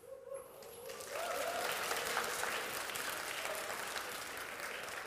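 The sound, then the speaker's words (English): An audience claps along to the words of a song in a steady, dense wash of applause that swells in after a brief quieter start and holds at a fairly loud level, with a faint voice underneath. “I pray that you're clapping to the words, if you can hear it over my accent.”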